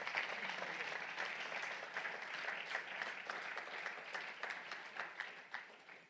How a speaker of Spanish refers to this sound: Si le va a aplaudir, apláudele fuerte, hermanos, a Cristo.